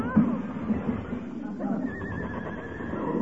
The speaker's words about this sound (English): What's that? Heavenly days, a runaway horse in this day and age. Hey, must have busted loose from a delivery wagon.